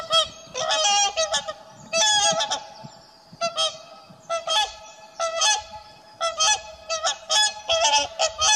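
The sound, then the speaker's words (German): Wild geese call in the Elbe valley floodplain in Germany, a steady chorus of loud, nasal honks, overlapping bursts repeating throughout with brief pauses, as from a flock. No voices are heard. “Wildpferde, Weißstörche, Reiher, je nach Jahreszeit bestimmt der Ruf wilder Gänse, das Trompeten der Kraniche oder das melodiöse Tönen der Singschwäne die Luft.”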